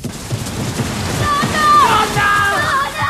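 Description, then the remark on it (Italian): A dense, steady wash of heavy rain fills the scene from start to finish, with thin sliding tones rising above the downpour in the second half, from the closing scene of Akira Kurosawa's film Rhapsody in August, where Grandma Kane runs through the rain. “Nonna Kane corre sotto la pioggia come un guerriero in battaglia.”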